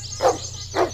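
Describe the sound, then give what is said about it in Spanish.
A dog barks twice, two short, evenly spaced woofs of moderate loudness over a faint, steady background hum. “Era una mañana cálida cuando de repente el perro empezó a ladrar.”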